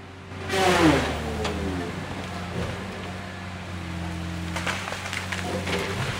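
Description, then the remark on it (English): A heavy diesel Tiger Cat logging machine, made by John Deere in Canada, cuts a tree at a Huffman logging operation. It drones steadily, with a loud, harsh burst of cutting noise early on as its engine strains, then settles into a low, even rumble with faint clattering. “As we watch, the machine cuts a tree.”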